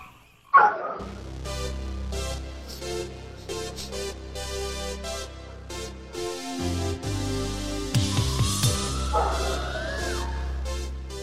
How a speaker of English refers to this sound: Nothing like hearing a live dog on the other feed, on the other telephone feed. Kind of makes people sit up and go, I wonder what this show is going to be about.